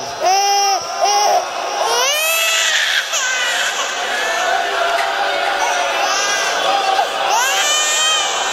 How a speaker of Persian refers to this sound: این بچه شیر خورده، اینجوری صدا گریهش در میاد.